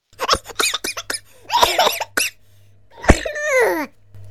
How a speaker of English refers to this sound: He's coughing his brains out. He'll be back in a second.